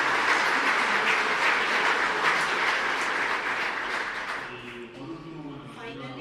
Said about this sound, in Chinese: 所以我们为他们掌声鼓励。